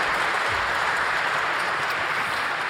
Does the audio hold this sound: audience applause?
yes